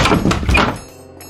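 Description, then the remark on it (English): A door bursts open with a heavy, jolting thunk and a quick clatter of impact, loud, then a short ringing decay into near silence. No one speaks. “The door flew open, revealing two people I had not expected to see together.”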